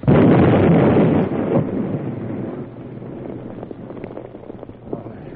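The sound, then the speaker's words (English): A dynamite explosion erupts loudly at the outset, its heavy roar dying away into a lingering low rumble with scattered crackles, like debris settling. No one speaks. “I guess the explosion just missed us.”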